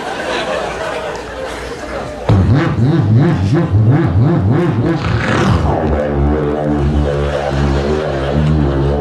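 A loud car engine roars to life and revs in rising and falling surges, then settles into a steady heavy rumble, with people chattering and laughing underneath.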